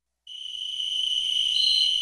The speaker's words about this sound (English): And now in our series, Wild Sounds, we hear from the common cricket.